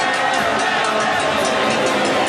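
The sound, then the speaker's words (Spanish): A large football stadium crowd roars at a goal in a sustained, dense wall of cheering and shouting, loud and unbroken for the whole stretch, with no clear individual voices standing out. “El fútbol se puede ver, oler y sentir, pero nada se compara con escuchar el grito de gol. Emocionarse con los cánticos en las gradas.”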